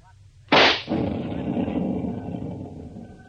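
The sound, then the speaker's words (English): A sharp, loud rifle shot at once sets off a small explosive blast meant to shake loose rocks blocking a cave entrance, followed by a rumbling roar that lingers and slowly fades over the next few seconds. “It won't be much of a blast. They're just enough to shake up the rocks blocking the entrance.”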